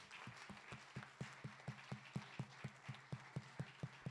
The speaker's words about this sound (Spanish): Así que un aplauso para todos.